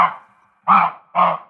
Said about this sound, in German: Das ist tatsächlich ein Geräusch von einem Reh. Klingt erstmal wie das Bellen eines Hundes, habe ich so zuerst gedacht.